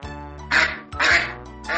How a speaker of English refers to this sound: Where is the goose? The goose is in my room. What is she doing in your room? She is looking for food in my room.